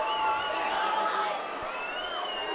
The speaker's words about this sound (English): The crowd yelling because the Red Ears mascot, Rhubarb the Reindeer, is threatening to throw a souvenir baseball into the crowd, and, you know, that gets everyone all excited.